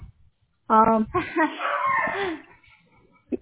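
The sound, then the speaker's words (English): A dog yelps sharply, then lets out a drawn-out, strained whining cry lasting a couple of seconds, loud against an otherwise quiet background. “Oh, what happened to your doggy?”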